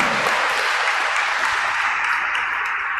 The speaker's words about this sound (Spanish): Un fuerte aplauso a la Virgen María. Un fuerte aplauso, como que hubieran 1,000 personas.